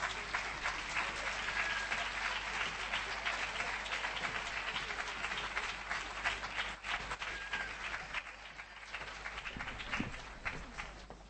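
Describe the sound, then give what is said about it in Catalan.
Sustained applause from a large audience at an institutional event, for the female singers about to perform, a dense, steady wash of many hands clapping that holds for about ten seconds before thinning slightly toward the end. “Ara sí, un fort aplaudiment per elles, si us plau.”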